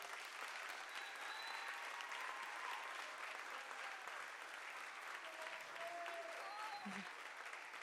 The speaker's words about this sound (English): So I'm going to let her come out. Can you guys just applaud as we bring her out here?